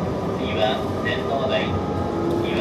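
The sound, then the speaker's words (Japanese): Steady, loud rumble of a JR Joban Line local commuter train car in motion, running through onto the Chiyoda subway line, a continuous low roar from wheels and track filling the space, with a voice announcement faintly audible over the noise. “この電車は地下鉄千代田線に直通いたします。”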